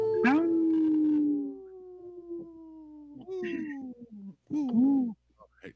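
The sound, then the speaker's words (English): Human voices imitate wolf howls on the radio show Native Roots Radio Presents, for Howling for Wolves, a group protecting wolves: a long, sliding, drawn-out howl, then two shorter wavering howls, loud with a brief pause between them. “This portion of the show is supported by Howling for Wolves, protecting wolves for future generations. Howl! Howl!”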